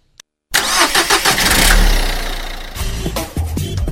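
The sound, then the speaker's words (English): A car engine cranks and turns over after a brief click, roaring up loudly before settling into a rough, rumbling idle, with no voices. “Traffic.”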